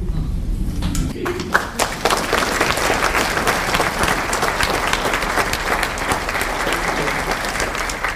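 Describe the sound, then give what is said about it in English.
A large audience at a reading from the book Walking with Beth breaks into sustained applause, many hands clapping densely, steadily and loudly, continuing without pause for several seconds after a brief quieter start. “You don't have to clap after every section.”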